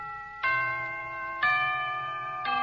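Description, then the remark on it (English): A London clock chime marking the quarter hour: three resonant bell notes struck about a second apart, each ringing on with a long shimmering decay over the lingering hum of the previous strike. “Now, how about the second characteristic chime?”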